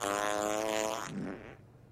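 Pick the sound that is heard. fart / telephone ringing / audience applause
fart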